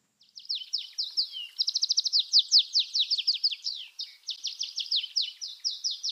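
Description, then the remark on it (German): An Atlantic canary, the wild ancestor of the domestic canary and native to the Canary Islands, sings a long, rapid song of bright twittering notes and quick trills, continuous and clear, with no other sounds around it. “Es ist nämlich der Kanarengierlitz, die Stammform von dem Kanarienvogel, den ja einige Menschen sich zu Hause in der Voliere halten.”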